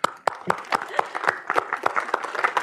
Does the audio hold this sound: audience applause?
yes